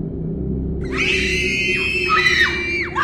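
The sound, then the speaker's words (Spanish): Several high-pitched voices of a woman and children scream together in sustained, wavering shrieks over a low steady rumble, rising and falling loudly for a few seconds, at a clinic. “Estaba del otro lado de la clínica cuando oí los gritos. Gritaban los niños y la mujer.”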